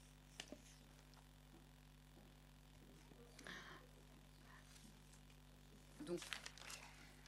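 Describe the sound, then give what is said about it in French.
Paper rustles and crinkles in a few short, soft bursts, with a longer shuffle near the end, over a steady low hum, as papers (the minutes of a vote, for signing) are passed around. “Maintenant, je peux passer le papier.”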